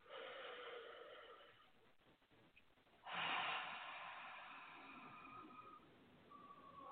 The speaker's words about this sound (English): Let's just grab the gamut point and take a deep breath. Place both hands over your heart center. Breathing in again.